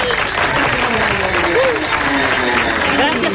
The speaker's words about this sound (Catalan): Bon aplaudiment.